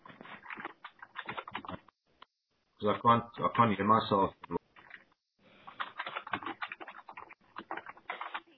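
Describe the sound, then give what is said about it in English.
Rapid clattering keystrokes on a computer keyboard, steady, with a man's voice talking briefly in the middle before the typing resumes. “Sounds like someone's typing.”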